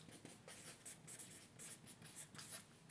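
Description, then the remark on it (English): A pen scratches and scrapes steadily across a piece of paper in short, quick strokes as someone draws, fairly quiet, with no voices. “We get a piece of paper and draw your current state.”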